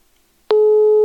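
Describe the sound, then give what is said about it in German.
A telephone call fails to connect, one of four attempts needed to get through: after a brief click, a loud, steady busy tone sounds with no talking. “Also wir haben jetzt gerade 4 Anläufe gebraucht, um uns per Telefon zu verbinden.”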